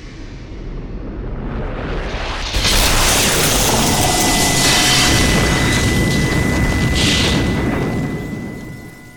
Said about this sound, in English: Sean makes it out the front door just as a 3-mile-long lightning bolt crashes into Holy Roast.